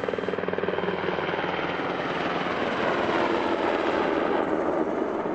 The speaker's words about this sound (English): A Black Hawk medical helicopter swooped down onto the road to take the injured soldier to a hospital, but it was too late.